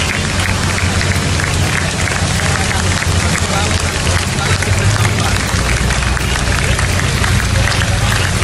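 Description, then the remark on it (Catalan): In the village of La Tallada, residents out in the street clap and cheer steadily for the whole stretch, dense, applauding tractors passing on their way to block roads in a protest, while a low engine rumble from the tractors runs underneath. “Els veïns van sortir al carrer aplaudint el pas dels tractors que anaven a bloquejar les carreteres.”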